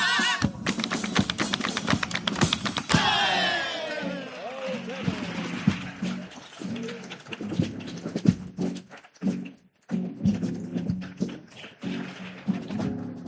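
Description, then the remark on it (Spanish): Sharp, rapid tapping of new small hammers on new small nails as a little cradle is built, dense and rattling at first, then thinning into scattered, irregular knocks with a murmur of voices underneath. “Pero veo que aunque os he comprado los martillitos nuevos y las puntillitas nuevas, estáis clavando regular, ¿eh?”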